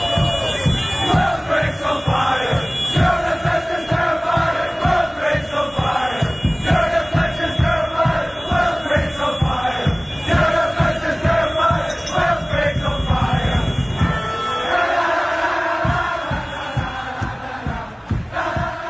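A large crowd of Northern Ireland football fans sings and chants together in a stadium, loud and sustained, with rhythmic swells and occasional cheers echoing across the stands.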